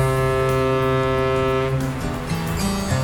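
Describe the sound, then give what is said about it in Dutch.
A dredger's ship whistle gives a loud, low, steady blast rich in buzzing overtones. It then wavers and shifts pitch over its last second, with no voices. “Je hoort de fluit, maar niet de fluit van Sinterklaas, want die komt volgende week pas.”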